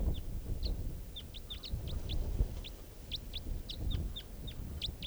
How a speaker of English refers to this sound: And flying right over. A couple of crossbills here, right down low. And they're sitting on a tree stump now, although I don't see them.